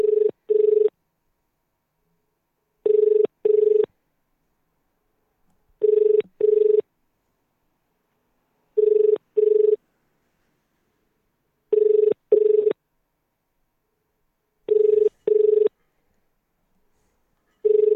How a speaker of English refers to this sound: I'm going to go straight into him. Someone has to answer this phone call.